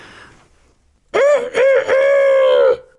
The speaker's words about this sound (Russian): Вот подошли три наших странника к одному дому, на воротах которого сидел петух и кричал изо всех сил.